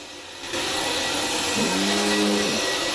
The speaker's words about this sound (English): At home, … is vacuuming the living room, and … has her headphones on, so neither of them hear the mobile phone buzzing.